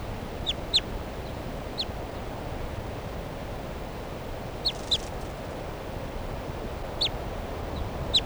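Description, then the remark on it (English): Soft alternate type 2 flight calls from an unbanded adult female bird in trees right next to a truck, in a bushy lodgepole pine with cones: short high chip-like notes given in scattered pairs and singles over about eight seconds, heard close above a steady hiss of background noise. “And she's giving some soft alternate type 2 flight calls here in the trees right next to the truck.”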